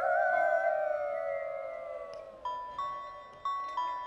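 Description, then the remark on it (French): A werewolf locked in a canteen howls, long and wavering, sliding slowly downward in pitch and fading, then four bright, ringing chime-like tones follow in a loose rhythm. “Le loup-garou, lui, reste enfermé à la cantine.”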